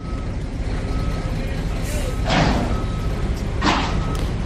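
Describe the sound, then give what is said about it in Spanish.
Heavy machinery rumbles continuously, with a steady reversing beep tone and two sharp hissing bursts like air brakes, at the works burying the 5 road in a tunnel in Madrid, by the Batán, Campamento and Casa de Campo area, with trucks maneuvering. “Con el ruido que les llega de las obras del soterramiento de la 5, se despiertan incluso antes de tiempo.”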